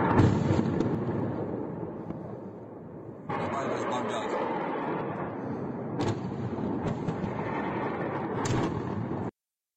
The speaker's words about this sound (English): Insane, the fire at the oil facility in Belgorod, reportedly as a result of an attack by two Ukrainian helicopters. Here's the video of the missiles being shot and the following explosion.